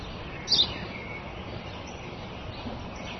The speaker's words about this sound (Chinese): 刚才告诉你的，那是一只麻雀。